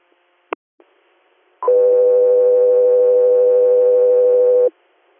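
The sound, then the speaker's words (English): A sharp click, then a loud, steady electronic dispatch paging alert tone held for about three seconds before cutting off abruptly, with no voices. “As we are stand by for tones.”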